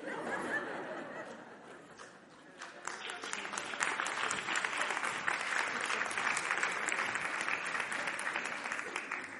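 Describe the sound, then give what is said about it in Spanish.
An audience bursts into sustained applause, a dense crackle of many hands clapping that dips briefly then swells louder, with scattered laughter and crowd murmur mixed in. “Nunca hubiera imaginado que me aplaudieran por eso.”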